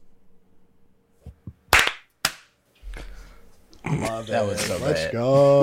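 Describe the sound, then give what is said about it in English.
Two sharp, loud hand claps, made to sync audio recordings on a count of 25, land about half a second apart, slightly out of sync, after a few soft taps. Voices then start up, talking and laughing. “If you're there, we can clap on 25.”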